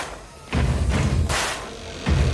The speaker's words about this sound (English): Get ready for the Warrior Workout. Round one. Warm it up. Stamp, stamp, clap. Clap! I want to hear it! Stamp, stamp, boom! Stamp, stamp!